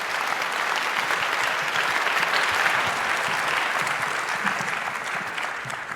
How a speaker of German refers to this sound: Bitte einen rauschenden Applaus für die beiden und viel Spaß beim folgenden Talk.